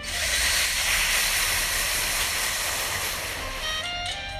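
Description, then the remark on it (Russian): A long, steady hiss of breath drawn through slightly parted teeth during a breathing exercise, with a slight smile and soft lips. The breath is airy and continuous for about four seconds, with a few faint tones surfacing near the end. “И сейчас делай через зубки, через чуть открытые зубки дыхание.”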